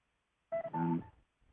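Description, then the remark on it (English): Two quick electronic beeps in a row from a caller on the phone line, steady pitched tones like telephone keypad dialing, with no talking around them and a faint low rumble trailing after. “I hear funny beeps in the background.”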